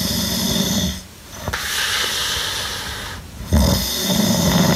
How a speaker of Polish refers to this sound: To jeszcze gorzej by chrapał.